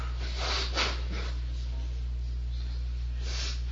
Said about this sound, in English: All right, pardon me. I got to blow my nose, so everybody turn away as best you may. My apologies.